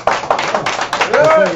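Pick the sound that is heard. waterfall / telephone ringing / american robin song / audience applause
audience applause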